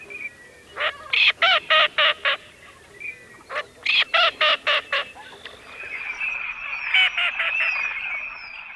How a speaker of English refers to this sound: If you guessed a green-winged teal, you're right. The green-winged teal is one of two teal species found in Virginia.